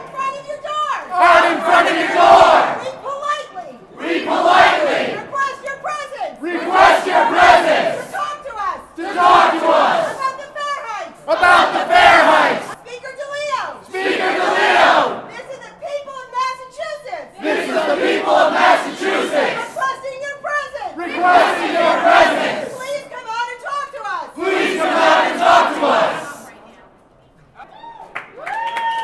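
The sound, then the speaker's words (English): A crowd of about 100 protesters from across Boston chants and shouts in repeated rhythmic bursts outside Governor Patrick's office, stopped at a line of state police, many voices yelling together in strong, steady phrases, briefly dropping off near the end before picking up again. “the crowd stopped at the line and vented their frustration towards the office.”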